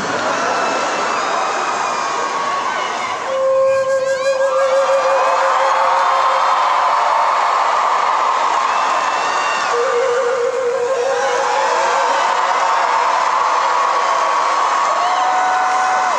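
A crystal flute sounds two long, steady mid-pitched notes, the first held for a few seconds and the second shorter, over a constant roar of crowd noise and cheering.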